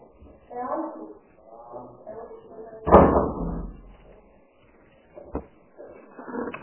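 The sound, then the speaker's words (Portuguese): A door shuts with a single solid thud, its sound fading over about a second. Muffled voices murmur in the background before and after. “vou fechar a porta, tá?”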